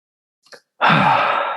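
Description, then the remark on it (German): A man takes a short, faint intake of breath, then a loud, breathy exhale rushes straight into his microphone, sustained and noisy right to the end, with no talking. “atmet kurz in sein Mikro.”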